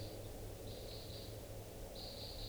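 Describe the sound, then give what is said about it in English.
Flight calls of crossbills flying past, identified as type 2, heard at 7:46: a few short bursts of high, sharp chip notes, somewhat faint, set over a steady low hum with no voices. “I hear crossbills at 7:46.”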